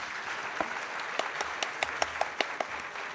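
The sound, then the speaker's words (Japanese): An audience applauds steadily, a dense patter of many hands with a few sharper individual claps popping out at a loose rhythm. No voices are heard over it. “皆様今一度盛大な拍手をお送りください。”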